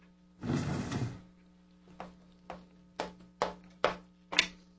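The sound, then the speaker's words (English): A chair scrapes briefly across a hard floor as it is moved away from the window to the other end of the room, followed by about six dull wooden knocks at a steady, unhurried pace, with no one speaking. “I moved it away from the window. It's at the other end of the room, and it's empty.”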